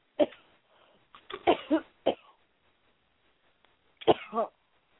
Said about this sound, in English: Take another deep cough and make it go out of the mind now.